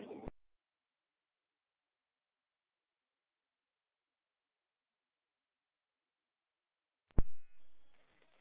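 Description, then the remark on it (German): After a long stretch of silence, a fire brigade pager alarm suddenly goes off with short, loud electronic beeps near the end, a follow-up alarm sounding a collective call-out for Rudolstadt, preceded only by a brief faint sound at the very start. “Jetzt kam Folgealarm, Sammelruf Rudolstadt.”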